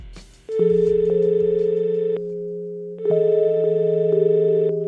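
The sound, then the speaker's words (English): Two long, steady electronic ringback tones sound over a phone line as a call is placed to a professor, each lasting about two seconds with a short gap between, clear and fairly loud with no voices. “Greg got Professor Hart on the phone to explain his take on bread.”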